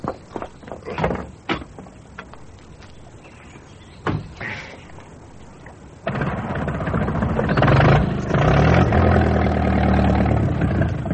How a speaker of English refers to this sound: Just a second. Hey? Stop your engine.